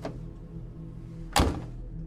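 A car door slams shut with one loud, heavy thunk, preceded by a faint soft knock at the start, over a steady low rumbling hum with no voices.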